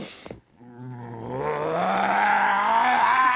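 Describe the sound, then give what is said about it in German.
A person imitates a sabre-toothed tiger's roar with a deep, rising, gravelly vocal growl that swells in loudness and holds for a few seconds, unaccompanied. “Der uvuläre Zäpfcheneinsatz eines Säbelzahntigers.”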